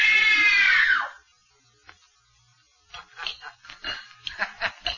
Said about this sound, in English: Good. Now scream. Scream! Scream for your life!